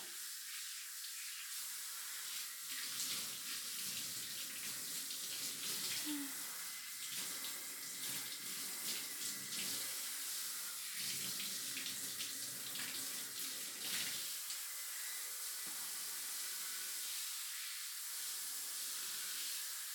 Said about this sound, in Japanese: シャワーかけるね。